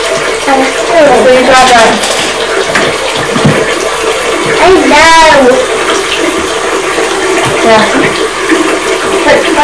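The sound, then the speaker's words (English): Hands wash in warm water in a sink, a steady wet swishing, splashing and churning that fills the whole recording, while voices speak briefly over it. “I'm doing it like this in the warm water.”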